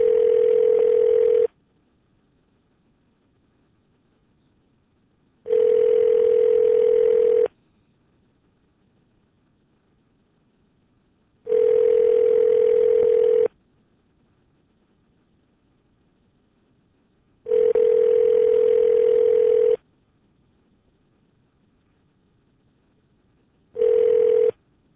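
A telephone ringback tone repeats steadily before an answering machine picks up: five evenly spaced bursts of about two seconds each, separated by roughly four seconds of near silence, clear with a slight buzzy edge.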